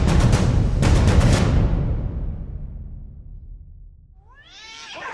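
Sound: cat meowing and caterwauling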